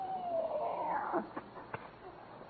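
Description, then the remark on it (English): A cat outside an open window lets out a long, wavering yowl lasting about a second, somewhat muffled, followed by a couple of faint soft thumps. “Rochester, did you feed the cat?”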